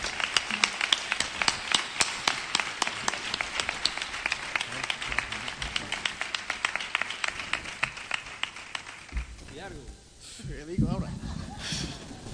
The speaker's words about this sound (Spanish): Un fuerte aplauso para ellos y mi reconocimiento.